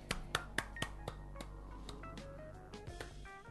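A short round of hand clapping: several sharp, crisp claps in a quick, slightly uneven rhythm, loud at first then thinning out and fading, over a low steady hum with no talking.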